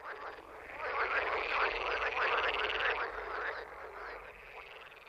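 A dense chorus of many large green frogs croaking together, some on the bank and some on water lilies, a steady overlapping rattle of calls that swells and then eases slightly toward the end, loud with no one speaking.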